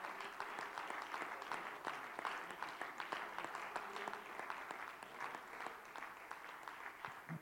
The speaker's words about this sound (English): Can you just clap your hands unto Him one more time while you're being seated? Amen. He is so worthy of our praise. Hallelujah.